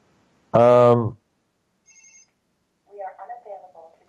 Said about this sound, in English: Now the phone's ringing. I don't know who's calling, but not much I can do about it right now because we're on the air.